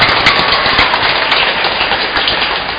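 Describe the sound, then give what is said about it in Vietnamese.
A church audience applauds steadily to thank a priest, many hands clapping at once in a dense, crackling wash of sound that holds at a fairly loud, even level throughout, with no voices heard. “Chúng ta cảm ơn cha nữa, lần nữa chàng vỗ tay đặc biệt.”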